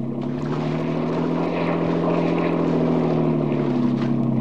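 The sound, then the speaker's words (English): A loud, steady motorboat engine drones continuously as the boat races across water, its deep throbbing hum holding an even pitch with a faint rush of water beneath, and no voices present. “Get more speed out of this. I can't, Dan.”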